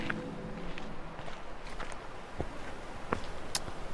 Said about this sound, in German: So Schritte, Meeresrauschen, mehr Schritte. Es gibt keine Musik.